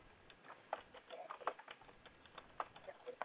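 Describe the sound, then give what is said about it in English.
Tarot cards being shuffled fairly fast for a reading: a quick, irregular run of soft clicks and papery flicks, fairly quiet, with faint murmuring in the background. “I'm trying to get the cards shuffled fairly fast so we can get as many people in as we can.”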